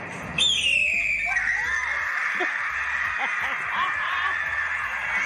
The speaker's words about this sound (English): This is what is actually the red tail hawk sound. And this is what it sounds like.